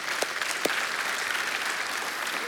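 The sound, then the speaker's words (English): A crowd claps steadily at the announcement of the grand opening of Crossings Mayfair on May 26th, a dense, even wash of many hands with a couple of sharper individual claps standing out early on, no voices over it. “Yeah, go ahead and clap.”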